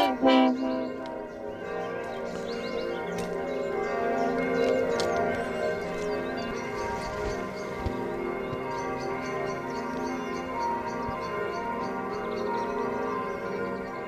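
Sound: church bells ringing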